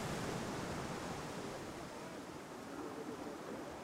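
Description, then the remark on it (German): A steady, broad rush of sea surf, soft and continuous with no distinct wave breaks, heard alone at a low level, washing without pause. “In Gegenwart des Meeres bedeutet das Glück die Abwesenheit von Angst. Sein Rauschen wäscht die Seele aus.”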